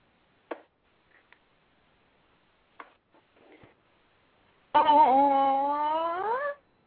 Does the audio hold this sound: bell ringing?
no